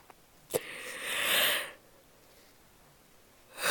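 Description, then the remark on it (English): A short click, then a long, breathy yawn-like exhale swelling and fading over about a second, fairly quiet; after a pause another airy breath begins. “A yawn fest, apparently.”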